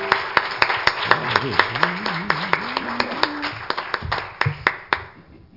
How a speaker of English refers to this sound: If you love the Lord, give him a hand clap of praise tonight.